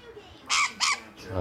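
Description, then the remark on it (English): Two short, raspy squawks from a pet bird sitting on a person's shoulder, one right after the other, followed by a low rumble as a voice begins. “The bird's back on my shoulder.”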